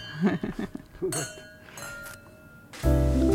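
wine glasses clinking

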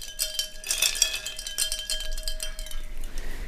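ice cubes clinking

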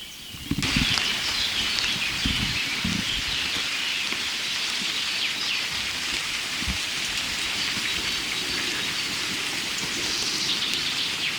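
heavy rain falling

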